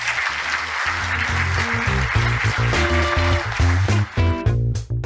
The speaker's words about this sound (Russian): Не пугайтесь, в конце вы услышали аплодисменты живой аудитории.